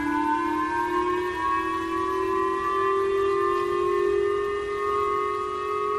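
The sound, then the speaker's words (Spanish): A Japanese civil defense missile alert siren, sounded in Japan whenever North Korean missiles are detected during Pyongyang's tests, wails steadily and loudly, a single sustained tone slowly rising in pitch with strong harmonics, with no voices over it. “Esto pasa cada vez que detectan la presencia de misiles norcoreanos en los muchos ensayos que hace el régimen de Pyongyang.”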